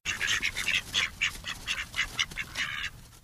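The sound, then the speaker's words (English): A small flock of bantam ducks kept in a backyard in Urbana quacks in quick, overlapping bursts, a busy chattering chorus that keeps going without pause. No one speaks. “Jana keeps bantam ducks in her backyard.”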